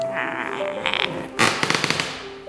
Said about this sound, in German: Auf dem Boden ist sehr viel Holz und das knarzt halt sehr dolle so.